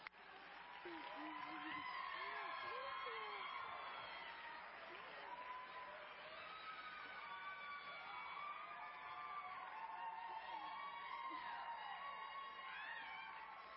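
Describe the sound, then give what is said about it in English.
A large audience applauds and cheers steadily for several seconds, welcoming a speaker, with loud whoops and shouts rising over dense, continuous clapping that stays strong throughout. “Please enter in an applause”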